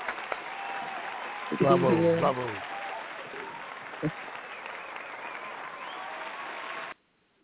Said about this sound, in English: Give you a round of applause.